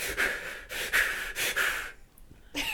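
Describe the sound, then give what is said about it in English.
A voice imitates heavy, rhythmic breathing, with three loud, drawn-out breaths in quick succession, a short pause, then the start of another. “But yeah, there's also the breathing, so it's like...”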